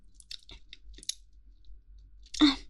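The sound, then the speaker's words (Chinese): Wet chewing of something tough and chewy, with soft irregular smacks and squelches, then a louder crunchy bite near the end; no talking. “啊，当然不一样，这也是鸡鸡嘛，太有嚼劲了吧？”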